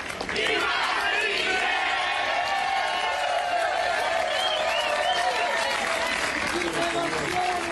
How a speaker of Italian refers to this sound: Troppo per poter andare avanti insieme, dopo mesi di polemiche tra Venezzi e le maestranze del teatro, che non a caso hanno accolto la notizia con un applauso.